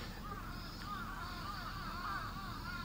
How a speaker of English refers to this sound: Like, the crickets sound a little different, crows sound a little different.